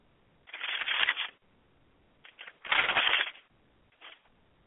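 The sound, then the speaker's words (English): Paper rustling in several bursts as pages of a book are turned to find a passage to read: two longer sweeping swishes and a couple of brief flicks, with quiet pauses between and no talking. “Okay, I'm still turning pages.”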